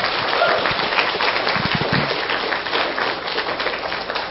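A room full of people applauds, a dense, steady wash of many hands clapping at once, fairly loud and continuous with no voices standing out.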